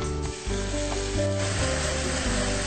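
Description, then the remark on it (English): A little water is added to a hot pan of onions that are sticking to it, to deglaze the pan with the flame left on, and it sizzles in a steady, loud hiss, with occasional scraping or stirring sounds underneath and no one speaking. “we have to deglaze a pan, which means that because they're sticking to the pan now, we're going to add a little bit of water.”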